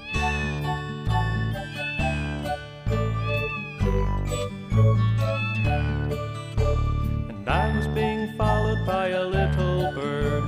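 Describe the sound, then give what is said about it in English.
Repeated meows of a fluffy little kitty cat ring out over a steady, bouncy musical backing, the mewing cries rising and falling in pitch in time with the beat, loud. “And I was being followed by a kitty cat, a fluffy little furry little kitty cat.”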